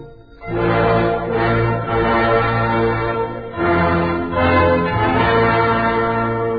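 Loud bells ring out for several seconds, their rich, lingering tones overlapping, with a fresh peal striking partway through and ringing on to the end. No voices are heard.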